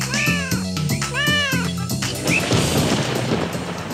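A cat meows twice in close succession, each cry drawn out and wavering, then gives a short, faint chirp, all over a low rumbling background that swells into a steady noisy wash.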